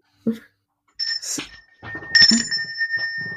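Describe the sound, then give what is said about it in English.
A bright bell rings twice, each strike leaving a clear sustained tone that hangs in the air, with some low rustling and background movement around it. “Ring the bell.”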